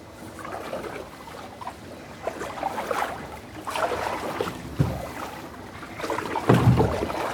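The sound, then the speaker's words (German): Steady canoe paddling through water by two people, one paddling and one steering, with rhythmic strokes splashing and swishing every second or so, over a soft background of trickling water and light wind. “Und ich paddel einfach, ich stoppe gar nicht?”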